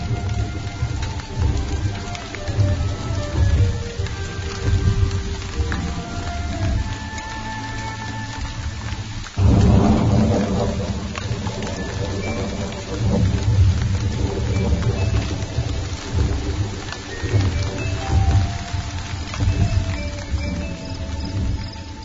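Steady rain beginning to fall at night, pattering and hissing throughout, with a heavier gust of downpour about halfway through, mixed with a soft clopping beat and faint tonal music underneath; no one speaks.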